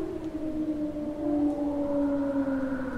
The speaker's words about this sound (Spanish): Otra vez ese aullido, lo que sea. Suena con eco. O puede que sean dos y suena más cerca.